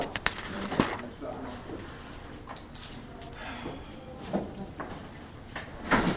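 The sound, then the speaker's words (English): A door opens and shuts with several sharp clunks and rattles, spread across a few seconds, while indistinct voices murmur in the room during a Torah class. “You know, maybe we should just permanently close the door.”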